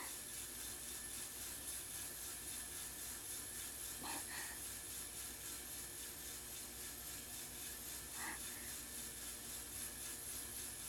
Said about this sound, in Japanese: お豆がいられて、ゆすられる音、シャッシャッって、規則正しくて、なんだかちょっと、蒸気機関車のドラフト音とも出ますね。